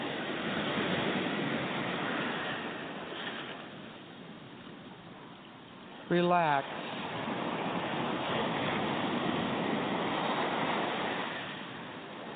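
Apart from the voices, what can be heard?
ocean waves breaking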